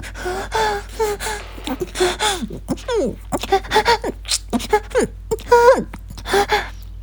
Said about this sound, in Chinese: 很快昏暗的房间内响彻着女人粗重的喘息声。